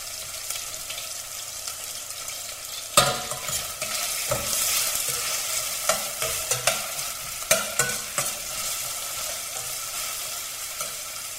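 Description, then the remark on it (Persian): Onions sizzle steadily in a hot steel pot over high heat while a spoon stirs and scrapes them in irregular bursts, the clinks and scrapes clear over the continuous frying hiss. No one speaks. “این که ما با در حقیقت با شوق پیاز ها چون داریم تم میزنیم، اون یه مقدار که حس کردید پیاز زیر قاشقتون نرمه، وقت بقیه کار هست.”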